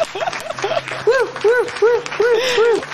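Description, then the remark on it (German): A comic applause sound effect played to welcome a guest: about eight rising-and-falling tonal whoops, repeated in a steady rhythm over a busy, crackling background, fairly loud throughout. “So, das ist dein Applaus,”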